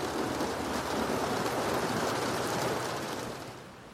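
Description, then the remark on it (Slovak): Steady rain drums against polished window glass in a dense, continuous patter of countless drops, even throughout, easing off slightly at the very end. “Opakuje si tú vetu stále dookola, kým nezačne na vyleštené sklo bubnovať dážď, ktorý ho ukulíše do spánku.”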